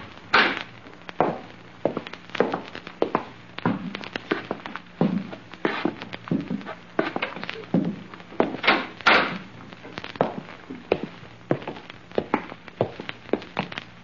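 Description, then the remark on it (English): A back door opens and closes amid a steady series of hollow thuds, like footsteps moving across a wooden floor, with the knocks repeating roughly twice a second throughout. “We're going out through the back door.”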